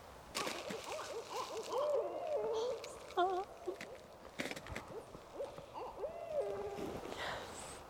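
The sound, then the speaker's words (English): Barred owls call back and forth in an excited, overlapping chorus of hoots and cackling caterwauls, loud and close by in the tree line, with whooping bursts rising and falling over several seconds, during their mating and nesting season. “It's totally barred owls. They sound pretty close.”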